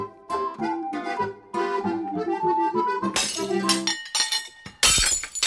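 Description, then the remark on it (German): Ceramic dishes smash loudly twice, a crash near the middle and a second sharp burst of shattering near the end, both following a stretch of ringing, tonal sound. “Au weh, das schöne Geschirr. Aber Scherben bringen Glück, denn was hier zu Bruch geht, bietet die Chance auf einen Neuanfang.”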